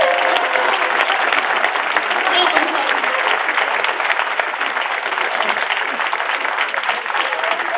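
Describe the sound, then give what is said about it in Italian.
A crowd at an election campaign event applauds steadily for several seconds to welcome the candidate Nicola Elia, a dense, crackling wash of many hands clapping at once with no voices rising above it. “A questo punto accogliamo con un applauso il candidato Nicola Elia.”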